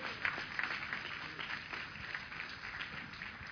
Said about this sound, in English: Praise the Lord. Hallelujah. Give the Lord another super clap offering.